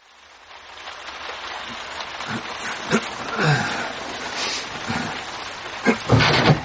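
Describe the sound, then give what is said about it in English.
A steady patter of well water sprayed from a garden hose onto a roof to imitate rain, with a continuous hiss and scattered louder taps and splashes throughout. “That's you with the garden hose, sprinkling well water on the roof.”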